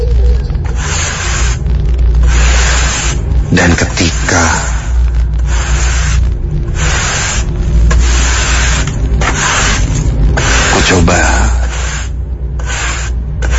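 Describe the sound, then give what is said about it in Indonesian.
A broom sweeps a floor in front of a toilet door in steady, repeated swishing strokes, each a breathy scrape lasting a second or so, over a constant low hum; a voice speaks briefly near the end. “Seperti suara orang sedang menyapu lantai.”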